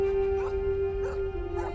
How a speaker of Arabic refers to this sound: برأيك لماذا ينبح ذلك الكلب؟